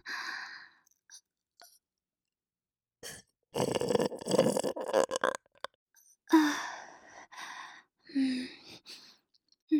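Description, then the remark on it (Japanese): Several loud, close-up burps after drinking Charmen, one long rumbling belch followed by shorter croaky ones, separated by brief pauses and some soft breathing. “あなたのチャーメン飲んで出たゲップは下品で汚くて、でも結構好きな人多いみたいなんですよね。”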